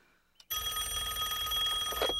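A telephone rings loudly, one sustained bright, metallic burst that starts abruptly after a short moment of quiet and carries on to the end.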